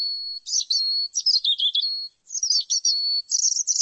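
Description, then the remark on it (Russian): A robin sings in two bright, warbling phrases of high, thin notes and trills, separated by a brief pause, with no other sounds around. “Или с малиновкой?”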